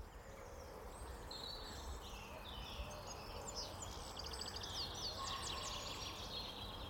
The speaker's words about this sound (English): There's a lot going on there, isn't there? Yeah, you know, pheasants, robins, yeah, wood pigeon.